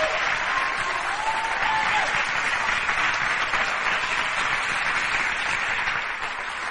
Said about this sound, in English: Why don't y'all just give Jesus another hand clap of praise for He's so good. Amen.